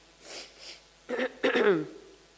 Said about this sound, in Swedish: Jag får ursäkta att jag snörvlar lite grann här.